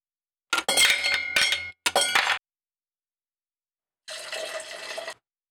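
Crushed ice rattles and clinks sharply inside a cocktail shaker holding gin and vermouth in a few quick bursts, then after a pause the drink is strained steadily into a glass. Fairly loud, with no talking.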